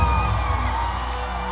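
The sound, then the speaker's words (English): A crowd cheers and whoops in a steady, loud roar of many voices, with occasional higher shouts rising above the dense wash of noise throughout the short burst. “All the people who know you've been redeemed, make some noise.”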